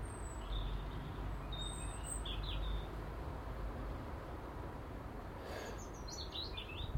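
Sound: birdsong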